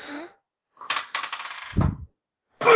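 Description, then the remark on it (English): Dice clatter and tumble across a hard tabletop for about a second, a quick run of sharp clicks ending in a low thud as they settle, with brief voices before and after. “I'm pulling out the actual dice for this one. We can kind of hear it.”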